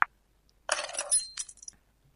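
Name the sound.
keys being picked up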